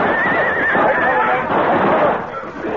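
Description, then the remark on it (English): Horses neigh and whinny loudly in a dense, agitated burst as they go down under rifle fire on a canyon floor, their shrill cries layered over rough thrashing and hoof noise, sustained throughout. “Our horses went down, and the 6 of us were trapped in the canyon floor.”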